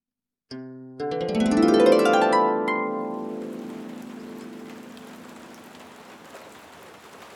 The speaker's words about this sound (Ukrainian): Ішов дощ, з неба падали важкі вологі краплі.